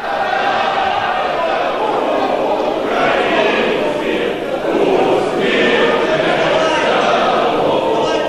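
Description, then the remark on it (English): Members of the Ukrainian parliament cheer and sing the national anthem together in a loud, continuous wall of massed voices that swells slightly midway, with no single voice standing out. “So they're cheering and singing the national anthem in the Ukrainian parliament.”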